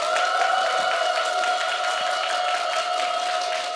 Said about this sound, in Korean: 여러분 큰 박수와 환호 부탁드리겠습니다.